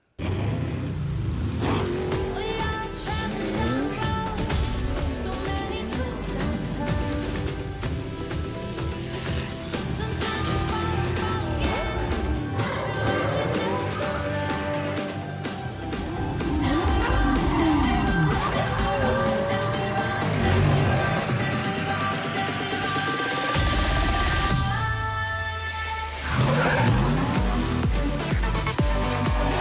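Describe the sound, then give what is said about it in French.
Racing video game cars rev and roar continuously, engines rising and falling with a few swooshing passes and a brief squeal-like whine, loud and busy throughout with no talking. “C'est un peu ça, mais avec des bagnoles, ça s'appelle Forza Horizon 3.”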